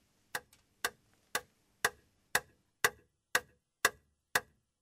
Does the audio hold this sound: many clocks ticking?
yes